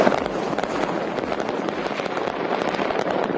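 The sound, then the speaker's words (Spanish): A dense, unbroken barrage of firecrackers, fireworks and rockets popping and crackling across the whole city of Naples, Italy, set off at many different points at once, overlapping into a steady roar of bangs with no voices. “Son petardos, fuegos artificiales, cohetes, de toda la ciudad iluminada, y en diferentes puntos cada uno va tirando sus petardos y sus cohetes y sus fuegos artificiales.”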